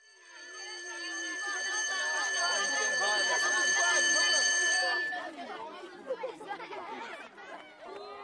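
A school bell rings loudly and steadily for about five seconds over a crowd of children chattering, then cuts off while the lively chatter carries on.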